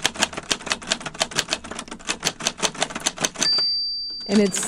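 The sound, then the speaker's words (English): Rapid, steady typewriter keystrokes clack away for several seconds, then stop as a bright bell rings out and lingers, followed by a short mechanical clunk. “For example, it's pretty easy to make the sound of typing on a typewriter.”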